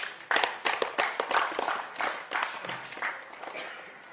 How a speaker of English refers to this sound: Have a clap.